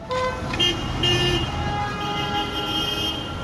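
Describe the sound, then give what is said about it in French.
Busy rush-hour street traffic in the Jeitaoui quarter of east Beirut, Lebanon, rumbles steadily while several car horns toot and honk in overlapping bursts, with no talking. “Je suis en train de m'éloigner de la circulation chaotique qui caractérise Beyrouth aux heures de pointe.”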